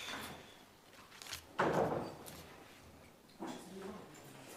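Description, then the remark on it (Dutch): A door is pushed shut with a solid thud partway through, followed by a softer second knock a moment later, at a municipal council meeting in Bezel as someone comes in, with faint background murmur. “Dank u wel, als u even de deur sluit.”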